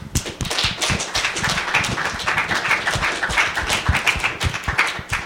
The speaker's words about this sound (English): So, thank you. Praise the Lord. Amen. Let's give him another hand clap.